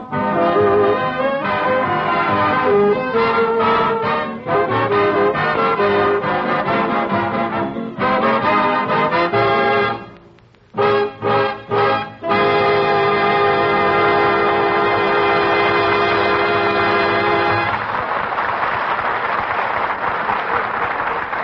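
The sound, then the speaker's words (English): An orchestra plays a brisk tune loudly, breaking into a few short punchy stabs before swelling into a long sustained chord, then applause rises as the music fades. “As …, played by the orchestra.”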